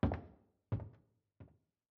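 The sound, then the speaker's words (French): Three heavy, booming footsteps climb wooden stairs at an even pace, the wooden steps creaking loudly, each footfall a little fainter than the last. No one speaks. “Le silence règne depuis quelque temps lorsque j'entends des pas lourds qui montent l'escalier. Les marches de bois craquent fortement.”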